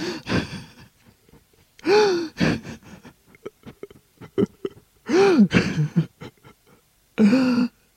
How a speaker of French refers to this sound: Il pleure, pleure.